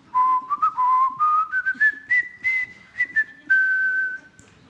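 A person whistles a bright, jaunty theme tune, the melody rising in steps and ending on a long held note, with faint low background noise and no talking.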